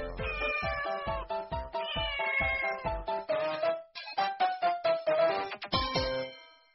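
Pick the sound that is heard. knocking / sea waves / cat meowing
cat meowing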